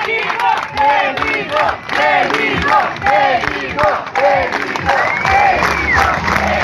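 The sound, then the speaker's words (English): A Brazilian crowd at a beach, surrounding a child separated from his mother, cheers and chants his name together so the parent can find him, with rising and falling shouts forming a loud, continuous rhythmic clamor and no pause throughout. “and they surround him and start cheering to call attention so the parent can find them.”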